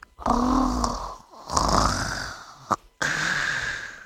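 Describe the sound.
A person imitates a crocodile's call with three rough, guttural growls, each a drawn-out snore-like rasp separated by brief pauses, fairly loud with no talking.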